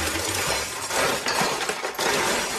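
Continuous metallic clinking and jangling as silverware is rummaged through in a junk drawer, a dense, bright clatter with brief louder bursts and no speech.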